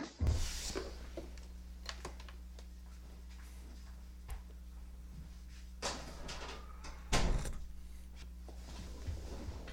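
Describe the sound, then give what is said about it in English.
A door being closed: scattered clunks and a rattle build to one solid thud, followed by a lighter knock, all over a steady low electrical hum with no talking. “Well, oh, shit, I should close my door.”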